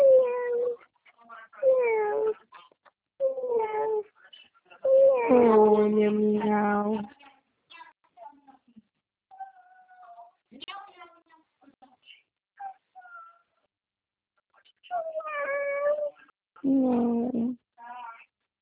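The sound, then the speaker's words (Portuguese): A kitten meows repeatedly in insistent bursts, some drawn out and wavering, with brief pauses between calls and softer chirps in the gaps. “Ei, meu gatinho. Olha meu gatinho aqui, meu.”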